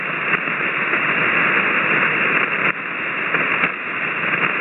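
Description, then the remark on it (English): Steady hiss of ham radio static on a weak band during an amateur radio net check-in, dense and band-limited like a receiver's audio, holding constant for several seconds with a brief dip and faint crackles, no voices. “But I'm going to move on down the log, sir, and thanks for checking in, and maybe your signal will get better.”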